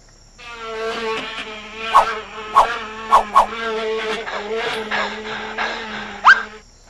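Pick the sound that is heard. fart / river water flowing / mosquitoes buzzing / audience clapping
mosquitoes buzzing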